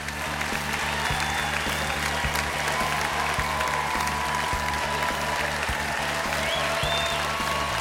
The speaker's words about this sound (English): He puts the microphone back on the stand while the audience gives him a standing ovation, clapping wildly.